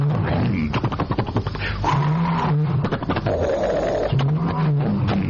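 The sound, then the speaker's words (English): A voice imitates a Cherokee small plane engine sputtering in trouble: bursts of rapid, rattling pulses broken by low droning hums that rise and fall, loud and continuous for about five seconds. “I'm making the sound of a Cherokee in trouble going.”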